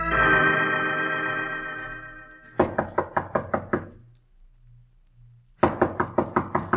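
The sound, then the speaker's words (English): A sustained musical chord fades out, then Sherlock Holmes raps rapidly on the door of the mysterious Colonel Stark, about eight sharp knocks, pauses, and starts another quick, loud round of knocking. “We find him at the door of the mysterious Colonel Stark.”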